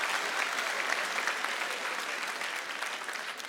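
Steady, dense hand clapping fills the whole stretch, a continuous patter of claps at an even, moderate loudness with no speech over it.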